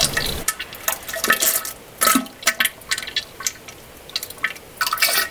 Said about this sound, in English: Let's remix 2012 Waterfall with 2011 Waterfall.